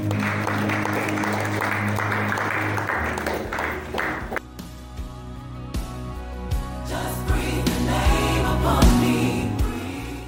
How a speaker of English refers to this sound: Thank you, Father. Thank you, Jesus. Shall we give a clap of praise to the Lord?